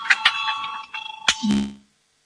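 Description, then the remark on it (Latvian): A voting bell in the Latvian parliament rings before a vote on a proposal, a steady, metallic electric peal for nearly two seconds, with a few sharper clicks at the start and end before it stops into silence. “Lūdzu zvanu, balsosim par 92. deputāta Valaini priekšlikumu.”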